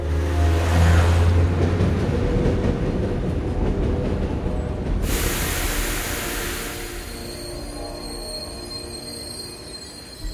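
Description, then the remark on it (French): A train from Saint-Lazare toward Versailles rolls along the rails with a loud, steady rumble and clatter, easing off slightly toward the end as thin high-pitched tones appear as it arrives at the station around 11 a.m. No one speaks. “À 11h, arrivé en gare, il sort du train.”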